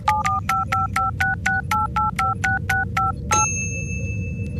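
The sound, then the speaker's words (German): A rapid run of about a dozen dual-tone keypad beeps as Dr. Hannibal types the coordinates of the planet Sordanien into a teleporter, evenly spaced and fairly loud, over a steady low hum, ending with a sharp click and a sustained high tone. “Dr. Hannibal tippt die Koordinaten vom Planeten Sordanien ein.”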